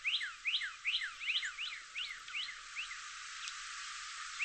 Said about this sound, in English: This northern cardinal song is one of hundreds of bird songs recorded by Dr. Pamela Rasmussen.